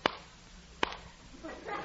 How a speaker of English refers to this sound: What's that? Two claps of thunder.